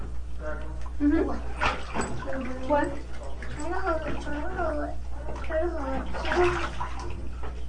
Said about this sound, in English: I mean, look, you're getting way more, way out of the tub. Try not to splash out of the tub, honey.